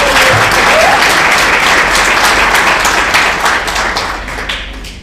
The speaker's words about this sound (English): She's the me at La Follette, so I want you guys to give her a round of applause.